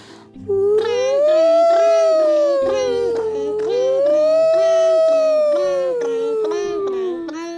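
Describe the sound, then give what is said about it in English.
Two voices imitate a fire truck: one wails a siren up and down in two long, loud sweeps while the other adds bell-like ringing sounds underneath. “So, you make the sound of the bell, I'll make the sound of the siren.”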